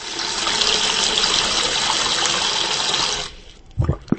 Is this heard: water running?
yes